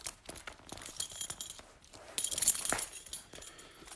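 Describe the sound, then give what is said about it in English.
A metal belt buckle jangles and clinks as a belt is pulled free: a scatter of small metallic taps building to a brighter rattling burst midway, then settling, with no voices. “I'm going to take this belt off.”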